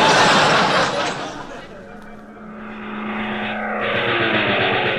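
An enemy propeller airplane roars past as it comes in toward a ship, its loud engine drone sweeping down in pitch, dipping, then swelling again as it passes.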